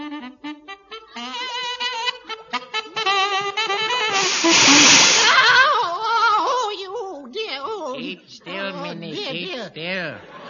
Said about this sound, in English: How can I get this jet of green steam up it if you jiggle about? Why do I have to have a jet of green steam up my saxophone?